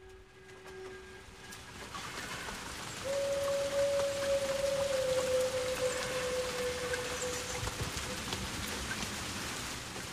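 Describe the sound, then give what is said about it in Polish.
Steady rain patters with a dense, hissing texture throughout a song, while a faint low tone and then a sustained, slightly wavering higher note drift over it like the start of the song. “W utworze jest deszcz.”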